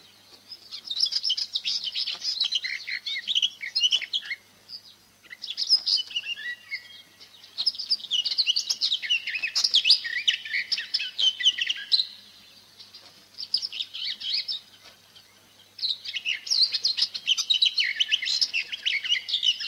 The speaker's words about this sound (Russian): Садовая Славка.